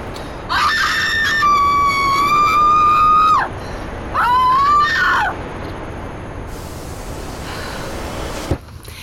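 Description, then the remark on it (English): A loud, sustained scream rises and holds for nearly three seconds, followed by a second shorter scream, then quiet background noise with a faint hiss. “I'd like to scream.”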